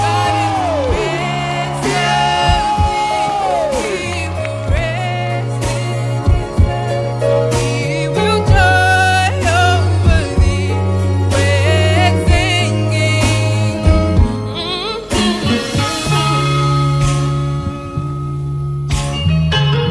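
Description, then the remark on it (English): An audience at the Living Bread Cathedral whoops, yells and cheers to welcome Bishop Edwin Morgan, over loud, steady music with a deep sustained bass line, the crowd noise rising in bursts throughout. “Make some noise. You can clap your hands. You can jump around.”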